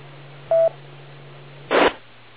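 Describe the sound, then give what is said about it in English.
A single short electronic phone keypad beep rings out clearly, followed about a second later by a brief rustling clunk of the phone being handled as it is pulled out to take a picture, all over a low steady background hum. “As a matter of fact, I'll pull the phone out and see if I can get a picture of the glare report for today.”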